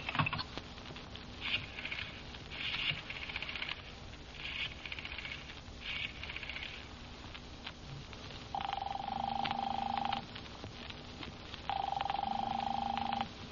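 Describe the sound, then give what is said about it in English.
The phone number 4087 is dialed in a quick series of short buzzy bursts to call a doctor's office, then two long, steady ringing tones sound on the line, with no one talking. “Give me the phone. Now, let's see. What's his number? 4087.”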